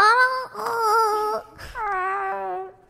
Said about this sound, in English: Also, the sound it makes, I'm pretty sure is a cat's noise. In fact, the ghast's wail was recorded from a real-life cat. It's crying. It's depressed. Poor ghast.